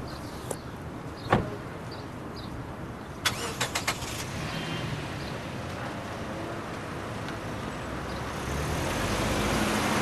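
A car engine rumbles steadily with a few sharp mechanical clicks and a thump early on, the engine noise swelling louder toward the end as the car, not a high-end model, draws up to offer someone a ride.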